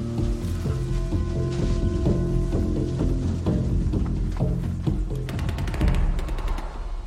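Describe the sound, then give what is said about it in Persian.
Scattered gunshots crack over a steady low mechanical rumble, building to a rapid burst of automatic fire near the end; the shots sound sharp. “این دیگه چی بود؟ کی شلیک کرد؟ ما نیستیم.”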